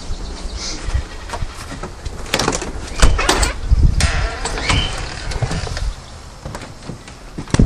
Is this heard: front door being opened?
yes